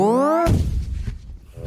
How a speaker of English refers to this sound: You do actually explode there. That was such a good choice of explosion, Jess. That was really great.